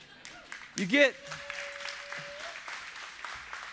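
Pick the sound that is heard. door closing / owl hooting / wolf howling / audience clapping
audience clapping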